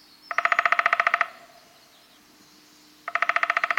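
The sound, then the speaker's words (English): Wilson's snipe calling in two quick bursts of rapid, evenly spaced notes, about a dozen each, with a pause between; the calls are loud, nasal and fairly high-pitched. “And the Wilson snipe, like the one we're hearing here, probes deeply for earthworms, working a long, slender bill that is nearly as long as its body.”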